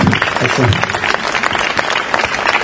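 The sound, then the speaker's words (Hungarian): A room full of people applauding in honour of an Olympian and a Romanian Hungarian sports journalist who went to the Rio Olympics, a dense, steady patter of many hands clapping at a loud, even level throughout, with a few voices briefly audible underneath at the start. “aki egyetlen romániai magyar sajtósként került ki a riói olimpiára, legalább akkor a tapsot.”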